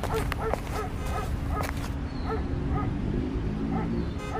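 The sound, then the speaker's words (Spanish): A dog crossing the street barks several times in quick, sharp bursts during the first couple of seconds. Quieter yips and whines follow over a steady, low background rumble. “Ve un perro cruzando la calle.”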